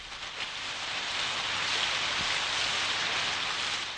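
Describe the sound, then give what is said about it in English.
Steady rain falls in a continuous hiss, a dense wash of patter with no pauses, broken only by a faint low thud midway through. No one speaks. “It's going to rain. Listen.”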